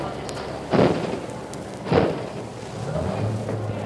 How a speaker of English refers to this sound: You hear the big bundles thrown into the trucks, eager to get away to make their schedules.